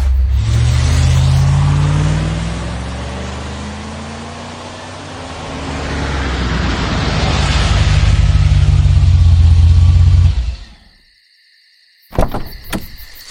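A car engine accelerates loudly for about ten seconds, its low drone climbing steadily in pitch, then cuts off abruptly into silence before a brief clunk near the end.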